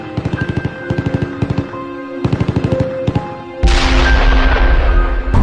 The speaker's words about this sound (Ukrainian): Саме тоді почалося вторгнення. І вдалині ми чули звуки кулеметів.